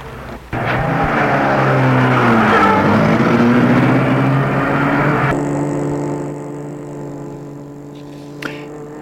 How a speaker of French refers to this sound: il prend les fils pour mettre la voiture en route.